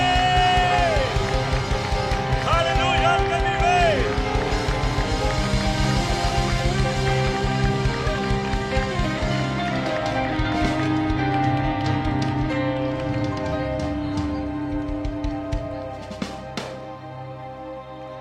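A church audience applauds and cheers loudly and steadily for God ("the King") over pulsing worship music with sung notes. The dense clapping and shouts carry on throughout before easing slightly near the end.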